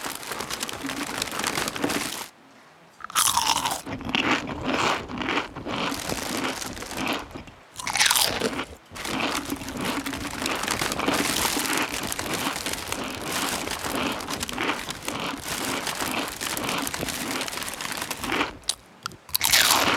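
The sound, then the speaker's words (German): Loud crunching of potato chips being eaten, a dense crackly chewing that runs almost continuously, broken by a few brief pauses. “Kannst du mit den Chips aufhören? Das ist unerträglich!”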